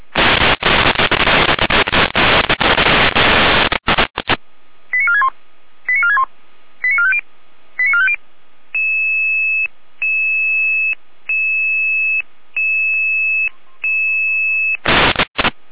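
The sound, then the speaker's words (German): Radio dispatch alerting tones from Jena: a hiss of static gives way to four quick chirping tone bursts, then a steady run of evenly spaced beeps, before static returns. No voices. “Jena mit Alarmierung.”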